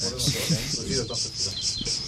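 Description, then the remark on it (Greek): A dense chorus of cicadas buzzes outdoors all around in summer at Arachova, in steady, rapid, loud pulses, with faint indistinct voices murmuring underneath. “Ακούμε τζιτζίκια αυτή τη στιγμή, γιατί είναι εδώ παντού γύρω μας.”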